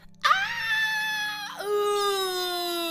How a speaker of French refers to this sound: avec des cris de peur, ils en ressortirent aussitôt. Oh loup, il y a des loups partout.